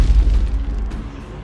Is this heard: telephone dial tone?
no